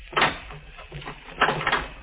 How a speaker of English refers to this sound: Lock the door. All right.